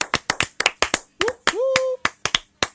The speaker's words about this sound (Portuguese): Aquela pessoa que nunca para de bater palmas. Quer sempre ser a última.